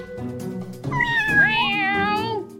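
A single drawn-out meow, loud, rising then sliding down in pitch over about a second and a half, with no talking.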